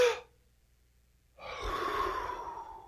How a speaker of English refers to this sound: Well, let's do a little exercise. You ready for this? You got to be with me on this. Take a big deep breath.